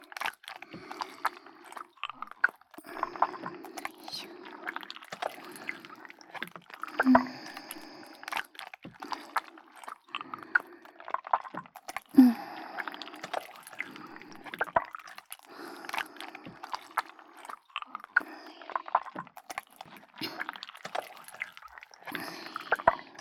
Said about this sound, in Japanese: ちょっと閉じててね。まぶたにスライムぬりぬりするからね。